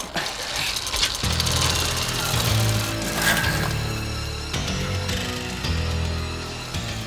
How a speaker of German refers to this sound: Die beiden Kinder radelten hinter dem Traktor her, der stetig auf den Strand zuhielt. Da die Küstenstraße steil abfiel, gewannen sie genügend Geschwindigkeit, um den Traktor nicht aus den Augen zu verlieren.